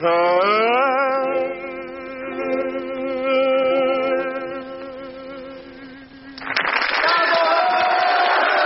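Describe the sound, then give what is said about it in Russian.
A wavering, sustained singing voice of a performer singing as Nero, with sliding pitches, gives way to a loud burst of audience applause for him, dense and steady clapping that fills the final couple of seconds. “Положительные аплодисменты Нерону, но я бы сказал, не идеально он здесь поет.”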